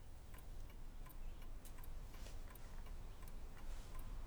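A clock ticks steadily, its soft, evenly spaced clicks repeating over a low background hush with no voices present.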